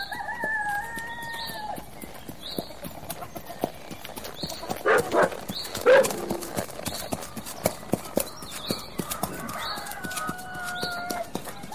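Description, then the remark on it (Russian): Horse hooves clip-clop in a steady, brisk light trot past the remains of a dilapidated water tower, the rhythmic clatter running throughout while roosters crow and birds chirp in the background. “За остовом обветшавшей водокачки пустил легкой рысью.”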